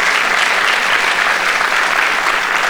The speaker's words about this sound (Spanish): Un aplauso a su Dios en este día.